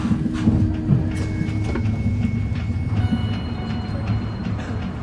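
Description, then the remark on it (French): A train rolls in toward Bordeaux-Saint-Jean station in Bordeaux, the train's terminus: a steady, loud low rumble with sharp clacks of wheels over rail joints and faint high metallic whines running through it. No voices. “Mesdames et messieurs, dans quelques minutes, nous arriverons en gare de Bordeaux-Saint-Jean, le terminus de notre train.”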